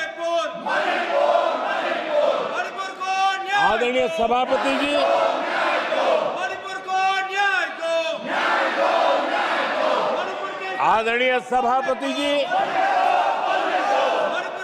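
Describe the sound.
Loud, continuous group chanting fills the whole stretch, opposition members in parliament shouting slogans in repeated rhythmic bursts during the Prime Minister's speech, while one speaker tries to address the chair over the din.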